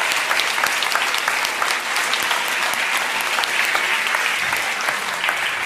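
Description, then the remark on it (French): A church audience applauds the newly baptised after a baptism, a dense, even wash of many hands clapping at a fairly loud level for several seconds, with no voices rising above it. “Est-ce qu'on peut encore applaudir tous les baptisés qui ont pris l'engagement de suivre Jésus?”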